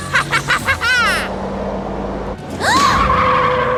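Car brakes screech loudly as tires squeal, with a pulsing, wavering shriek at first, then a rumbling skid and a long, sustained high squeal as the vehicle comes to a stop.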